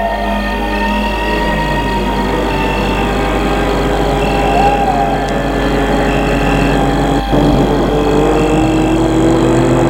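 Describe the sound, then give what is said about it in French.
A steady, loud engine drone with a low rumble and layered humming tones runs unbroken for the whole stretch, like a car driving along at night following a man walking alone. One brief click sounds partway through, and no one speaks. “il y a une voiture qui le suit.”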